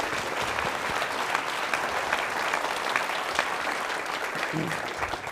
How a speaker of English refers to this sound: So I just want to give you, a round of applause. Thank you very much.